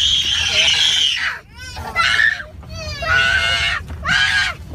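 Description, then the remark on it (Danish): Children shriek and squeal in several loud, high-pitched bursts with short pauses between them at a swimming pool, over a faint background murmur. “Så er der skrigende børn ved poolen.”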